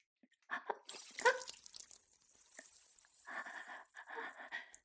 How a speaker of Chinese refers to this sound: 他正在学习不方便，我给他倒水喝呢。